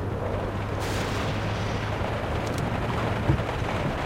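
nature, thunderstorm with thunder rumbling

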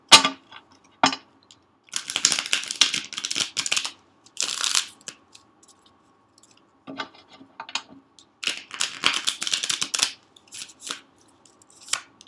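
household object, shuffling tarot cards

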